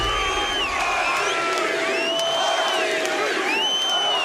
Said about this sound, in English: RG3 for the touchdown. Can you believe it? 76 yards all the way. Listen to the crowd.